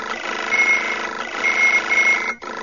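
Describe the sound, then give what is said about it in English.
Four data pads on a table chirp warning signals at once, a steady overlapping stream of bright, high beeps, fairly loud, with a brief break near the end. No one speaks. “When all four data pads on the table began to chirp warning signals, Leia silenced her alarm.”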